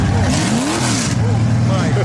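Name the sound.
car engine revving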